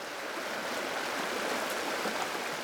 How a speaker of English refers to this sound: The Stillwater River flows across southern Montana. It runs along the Beartooth Mountains, flowing east.